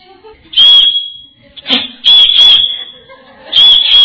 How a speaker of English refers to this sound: So two whistles means Ishu Dadi was called.